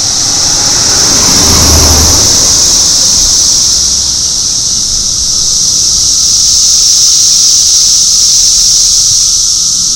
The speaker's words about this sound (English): Wait, here's another car.